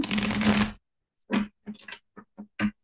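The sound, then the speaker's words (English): A deck of cards is riffle-shuffled in a dense, crackling burst, followed after a short pause by a few quick clicks and taps as the cards are squared up. No one speaks. “I'll shuffle one more time just so you can see that they are shuffled.”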